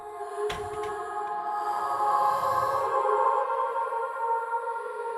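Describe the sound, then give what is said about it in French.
The soft opening of a song by a soft-voiced female singer, played as a musical break: sustained, shimmering tones hold steady at moderate volume, with a brief percussive knock near the start. No one speaks over it. “pour se remettre de toute cette violence, on a une petite voix douce là que je vous propose avec une pause musicale”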